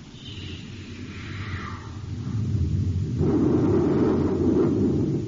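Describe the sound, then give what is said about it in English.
A space torpedo fired close past the port side of a small ship: a low rumbling roar with a falling, whistling whoosh at first, then swelling into a louder, sustained rushing blast that carries on to the end. “Fire a space torpedo close to his port side, Hap.”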